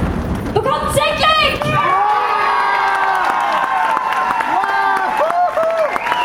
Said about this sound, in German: Der erste Platz vom Sixpack Band Contest. Da will ich was von euch hören, so ein bisschen Applaus, ein bisschen Trommelwirbel, vielleicht ein bisschen Stampfen. Den ersten Platz vom Sixpack Band Contest 2025.